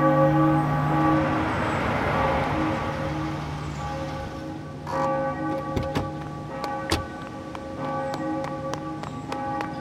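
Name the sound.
church bell tolling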